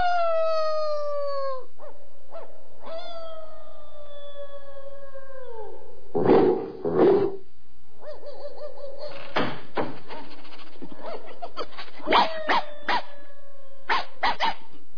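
Dogs, including a Great Dane in Hampstead, howl in long, wavering, sliding calls, answered by more howls and a scattering of sharp barks and yelps toward the end, with no one talking.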